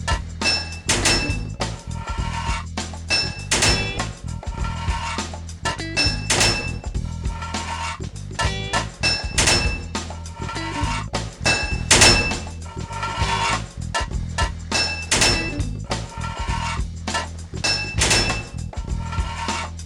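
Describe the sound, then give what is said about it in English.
Repeated sharp metallic hammer strikes clank in quick bursts, a hammer banging on pipes to fit them in a video game, two hits per pipe, loud over a steady low musical bed, with no talking. “2 hits of a hammer to fit a pipe.”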